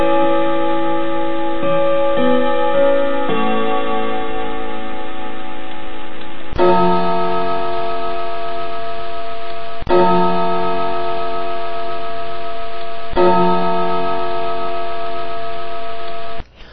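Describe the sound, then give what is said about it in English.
A Westminster clock chime plays on its own as a test sample after a test button is pressed, loud: sustained, ringing tones that shift to a new note every few seconds, with a slightly tinny, electronic quality. “that'll give you an example of what your clock's going to sound like.”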